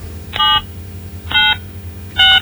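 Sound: telephone dialing tones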